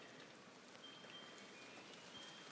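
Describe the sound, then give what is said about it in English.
Steady rain patters down onto the cover of a garden seat in windy, stormy weather, a dense hiss of countless drops, fairly soft and even throughout with no voices. “Oh, here comes the rain.”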